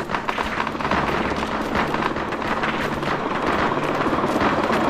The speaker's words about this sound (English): Wow. So then there's a hail of gunfire.